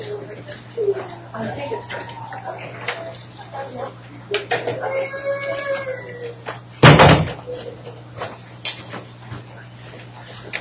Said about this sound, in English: Let me just go ahead and close this door here. It might be a little quieter.